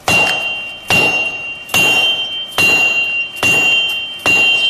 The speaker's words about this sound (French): Forger, c'est déformer la matière chaude par le rapprochement de deux outillages froids. Donc au départ, c'est l'enclume et le marteau.